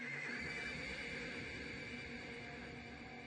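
A horse neighs steadily with no pauses, loud, its strained whinny stretching over a few seconds with a faint clatter of hooves underneath. No one speaks.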